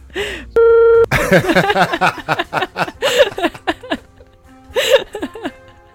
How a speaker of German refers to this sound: Okay, würdest du mir den erzählen und ich piepst das nachher raus?